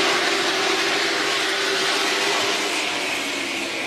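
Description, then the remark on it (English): A dense, steady roar of thirty-two race car engines at full throttle as the Aaron's 125 starts on the 0.4-mile racetrack at Southern National Motorsports Park, a constant loud wash of noise with a low droning hum running underneath, and no voices. “Thirty-two cars roar to life around this 0.4-mile racetrack”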